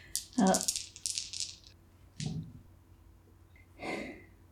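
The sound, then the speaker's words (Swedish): Dice are rolled for a physique check, rattling and clattering across a surface in a quick burst of clicks, followed by a few shorter, scattered rattles, with soft breathy sounds mixed in. “Vilse ska slå, det är ju mörkt också, du får slå ett fysikslag för att se om du klarar av det här konststycket utan att falla omkull.”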